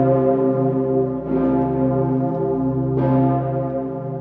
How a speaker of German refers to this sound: Und die Pummerin, eine der größten Glocken in Europa, also wenn die ertönt ist, das war schon sowas, dann weiß man auch heute noch, man ist in Wien.